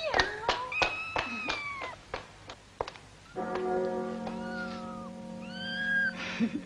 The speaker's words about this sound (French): Miaou. Miaou. Miaou. Miaou. Why do you cry so much?